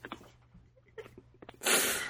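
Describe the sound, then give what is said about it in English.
A single loud sneeze bursts out near the end, preceded by a few soft sniffs and breaths, with a faint low hum underneath. “God bless you.”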